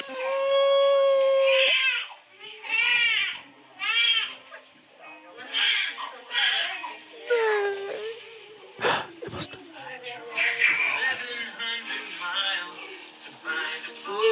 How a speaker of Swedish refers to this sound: Och man hör bebisen och bara, skrika.